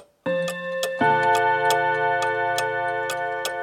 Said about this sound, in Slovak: Blíži sa polnoc a Lucia nespí. Sleduje kukučkové hodiny na stene.